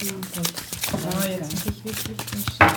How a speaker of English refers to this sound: The group's first exercise is to find a common theme. Then everybody shuffles their cards and lays them out on the table.